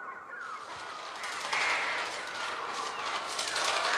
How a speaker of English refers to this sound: until it finally dissolves into the chaotic croaking of the birds.